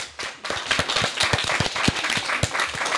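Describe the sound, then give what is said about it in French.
A school class applauds their invited guests from a retirement home, a dense, steady patter of many hands clapping at moderate loudness for about three seconds, with no voices over it. “et que d'ailleurs cette classe, cette dernière classe, va pouvoir s'applaudir nos invités de la maison de retraite qui sont venus.”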